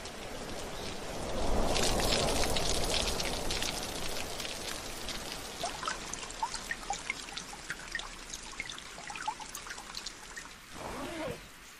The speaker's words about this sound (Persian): آره بارون داره قطع میشه، به خودم قول دادم که فقط روزه بارونی کلاس نرم.